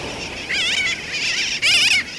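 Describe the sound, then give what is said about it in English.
A flock of sooty terns calling together, their high, wavering cries overlapping in a steady chorus with a louder burst near the end, over a constant hiss of background noise. “During and after a hurricane, sooty terns, like the ones we're hearing, and other seabirds from the Caribbean turn up widely in our country's interior, blown hundreds of miles from the sea.”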